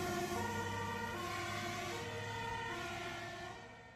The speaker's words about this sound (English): A dike also burst in Meersten, which forced an immediate mass evacuation of people, with the town alarm sirens going off.